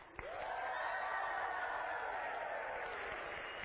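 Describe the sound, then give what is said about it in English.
A crowd erupts into loud, sustained cheering and shouting after a sharp onset, cheering in response to an announcement that the Minnesota Vikings just won the Super Bowl, holding steady for several seconds with a dense roar of many voices and scattered applause. “So I'm just going to say something that happened, and I want you to cheer as loudly as you think it deserves.”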